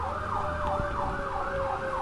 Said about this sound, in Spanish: Va pasando una ambulancia por aquí, vamos a esperar un momento. Bien, ya pasó.